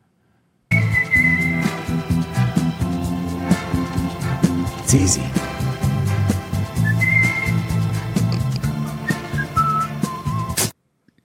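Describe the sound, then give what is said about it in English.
Someone whistles a few short melodic phrases, clear, in a scene where Satan tries to get Jesus to whistle for him, over a busy, continuous low background of music and movement, with a brief spoken line in between. “This is Satan trying to get Jesus to whistle for him.”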